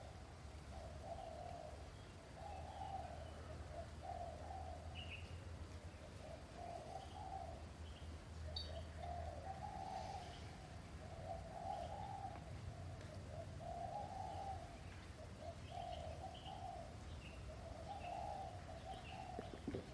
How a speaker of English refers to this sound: And even sound is feeling. Your eardrum is vibrating and making contact with the sound of the birds and the creatures outside of the building. You're feeling that.